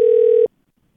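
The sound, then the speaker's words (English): A telephone call ringing after dialing: one steady, loud electronic ring tone lasts about half a second, then cuts off abruptly into near silence, with no voices. “I think I just dialed the wrong number on that one because his handwriting is really sloppy and I don't want to figure out what this number is.”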